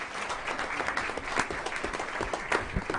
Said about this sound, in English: And second place, we had Houston High School, and they weren't able to be here today, so a round of applause for Houston.